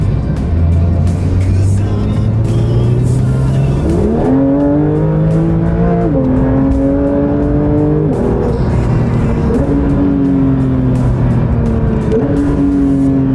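A race car being driven on city streets roars loudly as it accelerates hard from a rolling start, passing 120 within about three seconds, its pitch climbing steadily and dipping briefly at each of four or five quick gear shifts before rising again.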